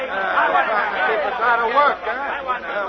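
An angry crowd chatters outside, a dense, steady babble of many overlapping voices rising and falling at a fairly loud level, with no single speaker standing out.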